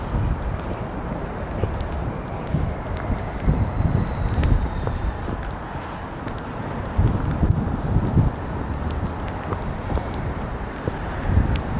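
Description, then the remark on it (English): Loud, gusting wind blowing past an apartment or condo building roars and buffets the microphone throughout, a constant low rumble that swells in uneven surges, with a faint airy hiss above it and no other clear sounds. “It's always windy through this part because of the apartment building, or the condo building, I'm not sure what it's called.”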